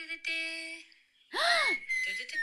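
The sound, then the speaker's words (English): Someone whistles into a microphone in sustained, sliding tones, several recorded takes overlapped, over a bright musical backdrop, the pitch gliding down and up through a couple of short phrases, fairly loud. “Who's doing the whistling? Me.”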